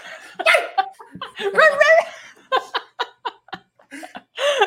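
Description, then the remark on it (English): WWE wrestler Grayson Waller imitates a dog, sounding like a Yorkie as he lets out a wavering howl and short growly yelps in quick bursts, fairly loud, with laughter mixed in between. “Do you hear Grayson Waller's like howl like when he was growling like a dog and he just sounded like my freaking Yorkie?”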